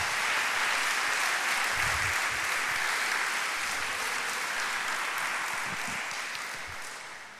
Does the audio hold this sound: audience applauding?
yes